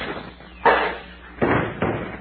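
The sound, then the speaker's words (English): A heavy metal cuspidor is thrown and strikes a person's head with a loud thud, followed by two more clattering impacts in quick succession. “I'll throw a cuspidor at him.”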